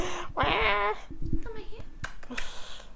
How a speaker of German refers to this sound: Ich dachte, ich kann euch jetzt ein paar Miaus ganz nah ans Mikro geben.